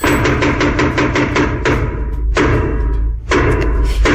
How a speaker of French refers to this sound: C'est les trois coups pour t'annoncer que la pièce va commencer. Alors, il paraît qu'au XVIIe siècle, c'était pour prévenir le roi et la reine que la pièce allait commencer, justement.